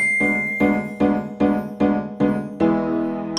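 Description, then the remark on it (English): A bell struck about seven times in a quick, steady rhythm, clear, the last strike left to ring out and fade. No voices. “Repeat the words after the bell.”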